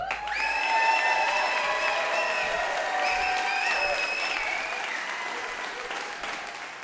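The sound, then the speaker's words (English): A crowd at a storytelling event breaks into loud, sustained applause for the night's first storyteller, lasting several seconds, with voices rising above the clapping. The applause eases slightly toward the end. “So our first storyteller of the night, an enormous round of applause, please,”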